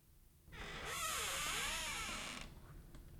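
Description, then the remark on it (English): A door creaks open in one long, drawn-out groan lasting about two seconds as a man swings it open, rising and wavering in pitch, clear with no voices. “and swings it open.”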